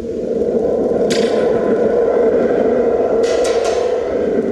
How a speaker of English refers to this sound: It's a lightning drum. I can do it.